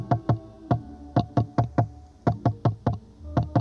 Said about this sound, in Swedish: knackat mot mikrofonen i 4 gånger.